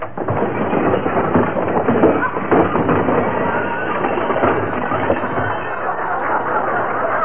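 A long avalanche of junk crashing and clattering out of McGee's overstuffed closet as Gildersleeve opens its door, loud and continuous for about seven seconds, with thuds and rattles piling on one another and no voices.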